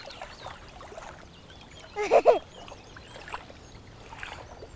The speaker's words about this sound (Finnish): Tänään on tällaisia aaltoja.